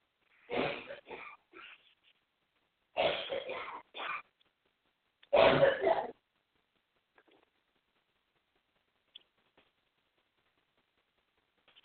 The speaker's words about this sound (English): I had to cough, and I didn't want to cough over the phone